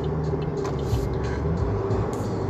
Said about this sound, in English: You know, traffic's a little tight this morning, so we're trying to blend in and mix in. Be careful this morning with your traffic time, because it's a mess out here in the streets, trying to blend in.